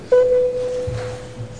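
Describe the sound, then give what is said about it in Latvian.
A steady electronic signal tone sounds at once and holds evenly for over a second, clear and moderately loud against faint background noise, the bell signal called for before a parliamentary vote on a budget and finance management bill. “Paldies, lūdzu zvanu.”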